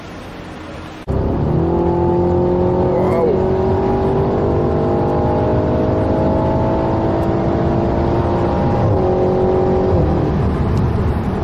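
The big V8 engine of an Interceptor V8 car roars loud after a brief quieter moment, a deep steady rumbling drone with a couple of small shifts in pitch as the engine revs.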